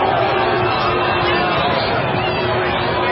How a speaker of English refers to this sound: Looks like about 100 people booing. Not even all of them are booing. So that's this on CNN. This is what they show. A mixed group of 100 people booing, and then this is the mixed reaction.